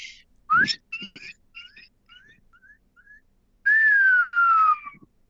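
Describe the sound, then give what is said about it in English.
A person whistles an imitation of a shining cuckoo: a run of short, rising, high-pitched notes that fade, then two long, loud whistles sliding downward in pitch. “I can't recall if this is a shining cuckoo or a long-tailed cuckoo, but I think this is a shining cuckoo.”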